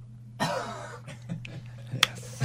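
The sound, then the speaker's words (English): A single short cough bursts out as a microphone cough button is tried, then fades into a quiet stretch with faint murmuring and a sharp click near the end. “Can I just try the cough button?”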